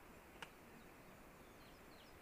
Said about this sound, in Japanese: あとさらに遠くで、高い声で、鳴いているのがオールリーっていう鳥です。